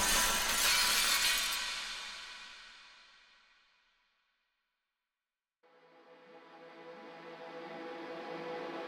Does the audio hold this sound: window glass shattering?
yes